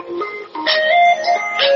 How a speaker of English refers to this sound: I like that ringtone.